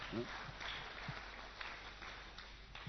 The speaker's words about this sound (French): On peut l'applaudir quand même là.